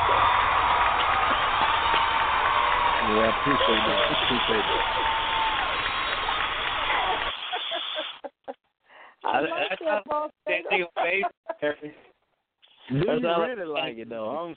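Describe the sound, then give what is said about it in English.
A burst of loud applause and cheering sound effect, played as praise for a rhymed story someone told, fills the first seven seconds as a dense, steady roar, then cuts off abruptly before people begin talking. “But, you know, some I could give you some applause on that one.”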